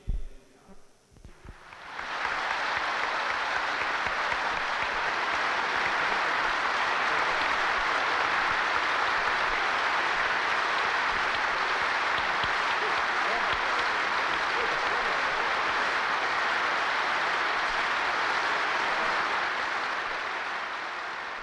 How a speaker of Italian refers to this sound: Quando il Presidente Ingrao ha letto la 506esima scheda recante il nome di Pertini, e lo ricordiamo, 506 era il minimo dei voti necessari per essere eletti, dalla platea dei grandi elettori si è levato un applauso. Riascoltiamolo.